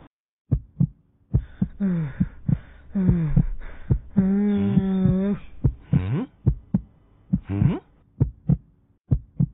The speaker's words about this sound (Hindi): इसका दिल तो इंसानों की तरह धड़क रहा है।